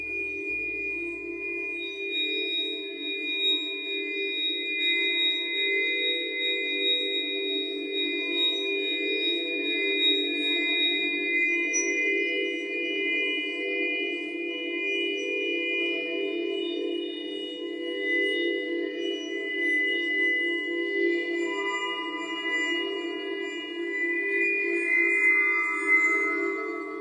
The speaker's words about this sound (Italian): perché i suoni del calcare, potremmo qui ascoltarlo, non sono altro che dei suoni liquidi, perché il calcare dal punto di vista geologico non è altro che acqua fossilizzata. Io direi di andare ad ascoltarlo il calcare.